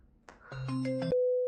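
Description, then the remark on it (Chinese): A mobile phone rings with an incoming call, an electronic ringtone: a quick run of synthetic notes stacks up into a chord, then settles into one steady, fairly loud tone. Nobody speaks. “老公，好像有人打电话给我，可以把手机递给我吗？”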